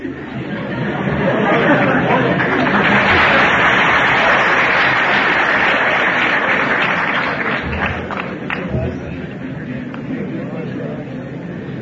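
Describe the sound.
An audience applauds steadily, the dense clapping swelling early and holding loud before easing slightly, with murmuring voices mixed into the crowd noise.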